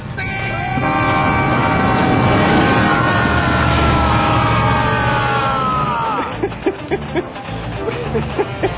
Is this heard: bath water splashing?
no